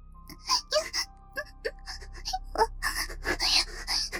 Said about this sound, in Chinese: 而我则渐渐地呼吸困难，喘息声越来越急促。